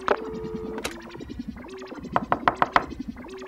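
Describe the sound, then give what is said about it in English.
A quick series of about five sharp, evenly spaced knocks on Dr. Meadows' door by a delivery service bringing a package, clear, following a stretch of soft melodic tones. “Someone's at the door, Dr.”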